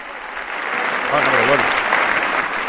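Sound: ovation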